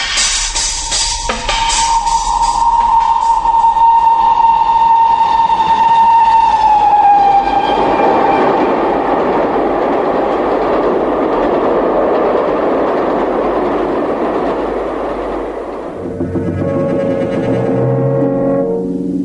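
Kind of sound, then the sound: vehicle, train running on rails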